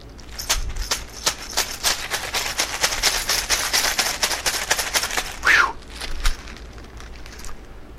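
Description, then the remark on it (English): Keys and an iPhone rattle and clink inside a bag as it's shaken rapidly for about five seconds to test the phone screen's scratch resistance, fairly loud, then the jostling stops and a quieter background remains. “So we're just going to give this a few shakes in the bag with the keys to simulate it being in your pocket.”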